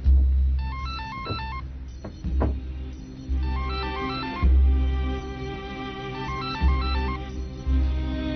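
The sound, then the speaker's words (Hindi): A telephone rings repeatedly and unanswered at an office that has closed for the day, with a warbling electronic trill, each burst followed by a pause, over a low steady hum; the ringing keeps going and nobody speaks. “कोई फोन नहीं उठा रहा, दफ्तर की छुट्टी हो चुकी है।”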